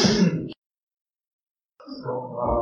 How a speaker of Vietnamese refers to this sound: Chào còn gì nữa, hết rồi, buồn ngủ rồi, ngáp rồi, nhậu rồi, ngáp rồi.